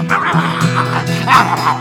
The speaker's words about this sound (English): barked at possum, he growled at him.